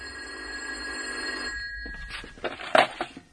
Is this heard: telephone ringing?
yes